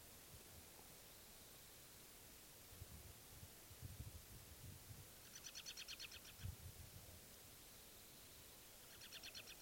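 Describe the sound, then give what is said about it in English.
A bird lets out quick bursts of rapid, high-pitched chirps in two short runs, fairly faint over a steady hiss of background noise with some low rumbling. No one speaks. “That was the bird.”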